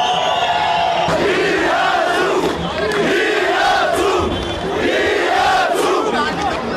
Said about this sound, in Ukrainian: 23 червня у Єревані відбувалися протести супроти повищення ціни на електричність. Для розгону протесту поліція ужила силу і водомети. «Ми разом», – скандували протестовці.